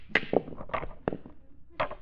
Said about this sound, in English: Granny, you must stop cracking your knuckles.